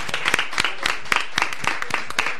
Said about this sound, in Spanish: Venga, muchísimas gracias. …, ese aplauso fuerte para ellos.